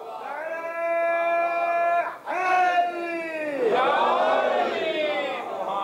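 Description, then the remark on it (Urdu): A large crowd in Punjab chants religious slogans in unison in response to a speaker, loud, two long sustained shouted phrases with a brief break between them, the many voices blending into a roaring, drawn-out call. “پھر جب میں نے یہ کہا تو مجھے پہلے والے سے زیادہ نعرے مل گئے.”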